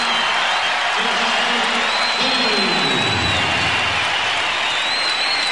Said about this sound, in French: Et Michael Jordan donc sort 2 minutes avant la fin du match, comme si de rien n'était, comme si c'était un match normal. Sauf qu'à ce moment-là, toute la salle se lève d'un seul homme, l'applaudit.